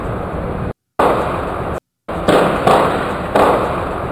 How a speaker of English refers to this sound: Captured by police gunshot detection technology. What a bitch! Those are some gunshots if I've ever heard them.